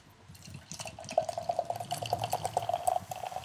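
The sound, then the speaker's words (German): Beer pours steadily into a glass, a gurgling stream with quick bubbly crackles and small pops running under it for a few seconds, no voices. The beer is golden and slightly cloudy, with a fine fizz. “Es ist golden, es sprudelt ganz schön fein.”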